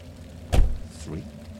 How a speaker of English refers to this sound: It must have been, 20, 30 minutes when his wife starts hearing a knock. Oh. She sits straight up and listens carefully. Two.